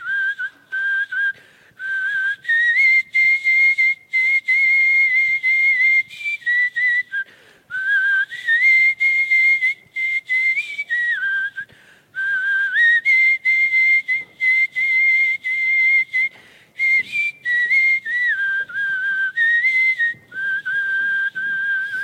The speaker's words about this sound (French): Ici, c'en est une de traces, sifflée du Romy. Alors, on vient d'entendre Isgere, le sifflement des pasteurs.